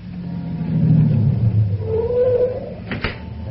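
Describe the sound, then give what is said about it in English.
A taxi's engine rumbles low and steady as it pulls up in New York while it is still dark, its tone shifting with a brief whine as it slows, then a short sharp clatter near the end. “Taxi!”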